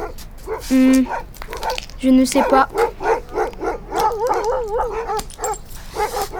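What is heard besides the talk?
dogs barking and whimpering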